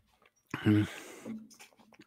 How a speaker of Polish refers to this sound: Sekundkę, przełyknę.